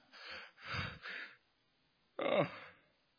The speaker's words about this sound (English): Oh, I get so bored in Missions Month. That actually was a fake yawn up until about halfway, and then it was a real yawn.